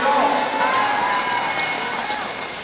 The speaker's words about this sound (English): That's 24 skaters, their clap skates, and a sellout crowd at Pettit last month on the final day of Olympic trials.